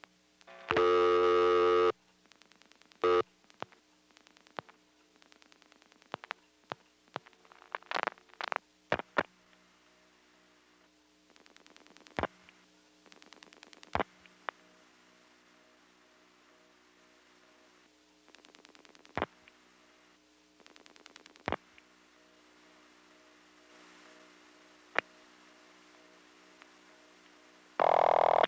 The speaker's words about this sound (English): Now I'm going to dial 825 plus 3 digits, flash, and then dial 9999, a quadruple ringing number.